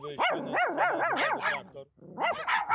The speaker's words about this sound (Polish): I tak chodziliśmy, szukaliśmy i po 10 minutach koleżanka krzyknęła, coś tutaj szczeka, tak?